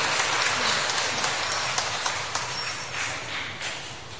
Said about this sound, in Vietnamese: Một tràng pháo tay để chúng ta cảm ơn sự đóng góp chia sẻ của anh chị em.